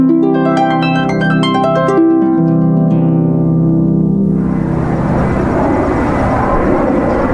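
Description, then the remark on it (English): A loud jet airplane passes overhead near O'Hare International Airport, heard from Reed Dunning Memorial Park in the Dunning neighborhood, its whining engine tones sliding and shifting before giving way to a broad, rushing roar that fills the sound. “We are in the shadow of O'Hare International Airport here in the Dunning neighborhood. There's the plane.”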